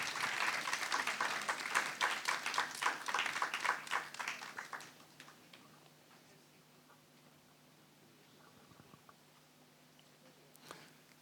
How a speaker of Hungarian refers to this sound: hogy jöjjenek le ők is egy nagy taps kíséretében